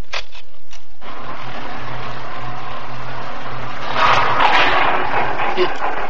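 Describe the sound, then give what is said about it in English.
An elevator running with a steady low mechanical hum and broad whirring noise, then a louder rattling jolt as it lurches to a halt and gets stuck near the end. No one speaks. “What's happened? We stopped. I don't know. We're stuck. We're stuck in here.”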